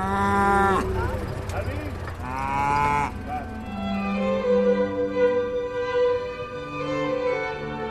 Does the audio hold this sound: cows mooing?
yes